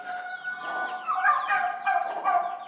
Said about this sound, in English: One of Em's little bantams learning to crow.